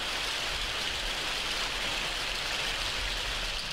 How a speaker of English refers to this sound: The rain was coming down like it was trying to wash us away, so we were almost glad to get inside that spooky old place.